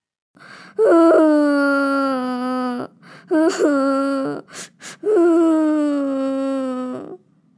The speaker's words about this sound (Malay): memeluk dan menangis di pelukan ibu.